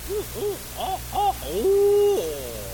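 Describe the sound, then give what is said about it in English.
A person imitates owls of the St. John's River swamps calling and answering each other, fairly loud: four short, arching hoots in quick succession, then one long drawn-out hoot that trails off. No one speaks. “And way on over several miles, you'd hear another one answering.”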